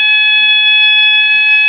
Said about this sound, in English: That's loud. There's fire alarm.